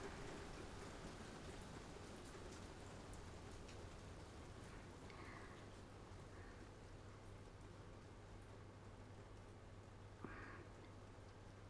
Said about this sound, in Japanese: 雨、上がってきたね。